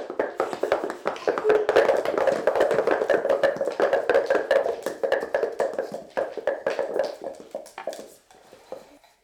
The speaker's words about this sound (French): Un cheval arrive au galop.